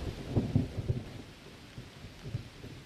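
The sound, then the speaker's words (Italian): Deep thunder rumbles in a few heavy low rolls over a steady wash of falling rain during a storm over a salt pan, fairly quiet, with no voices. “Nella salina, in silenziosa attesa, giungono spaventosi rombi di tuono e nere nubi addensano la pioggia.”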